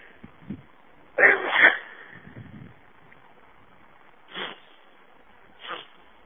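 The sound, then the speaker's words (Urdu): A loud, forceful sneeze bursts out near the start, followed later by two shorter, softer sneezy exhalations, with quiet stretches between and no talking. “بتائیے, چھینک knock out کر دیتی ہے, ناک آؤٹ کچھ.”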